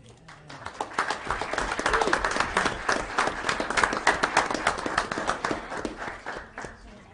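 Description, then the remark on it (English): Audience applause at an awards ceremony for Osborne Two-Way Immersion Academy, third place in the elementary division, fills the span: a dense, steady patter of many hands clapping at a fairly loud, even level before tapering slightly at the end. “Another round of applause for Osborne.”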